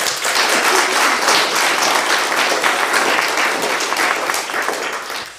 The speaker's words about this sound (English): So welcome into membership, welcome into the membership, yeah. Clap.